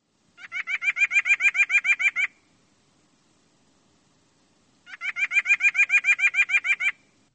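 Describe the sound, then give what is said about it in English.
Two bursts of a white-breasted nuthatch's nasal yank call, each a quick, steady run of about a dozen clear, honking notes, separated by a few seconds of quiet. “The nuthatch's nasal yank, yank sounds like.”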